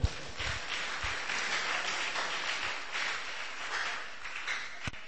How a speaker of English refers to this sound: Clap for him.